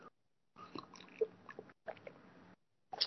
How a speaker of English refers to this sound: Let me get a sip of my good tea here.